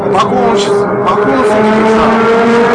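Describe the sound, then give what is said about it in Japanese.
A Lamborghini Huracán engine, recorded on a dashcam, roars loudly and continuously, a dense, buzzing drone with strong low harmonics whose pitch wavers slightly up and down over a few seconds. “爆音するさ。音圧がかかったんでしょうな。”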